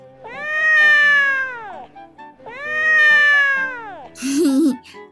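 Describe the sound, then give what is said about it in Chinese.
A big fat cat, straining with all its might, lets out two long, loud, drawn-out meows, each falling in pitch, followed by a brief wavering squeal at the end. “大肥猫憋足了劲儿，用最最可怕的声音叫了起来： 喵！”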